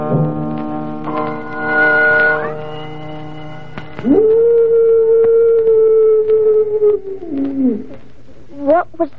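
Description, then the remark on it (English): A wolf howls in two long, loud, sustained cries, the second rising sharply, holding steady, then sliding down, followed by a couple of brief yelping calls at the end. “That was merely the soul of a wolf passing by the purgatorium.”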